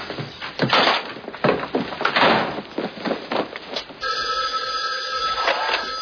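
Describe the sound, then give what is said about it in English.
A few seconds of loud clattering and thumping, then a telephone bell starts ringing steadily and keeps going, loud, with no one speaking. “If Mom calls, tell her I'll be home by lunchtime.”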